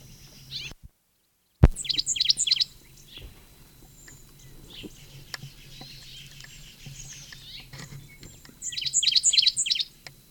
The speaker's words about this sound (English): 7:45, probably the sycamore bird.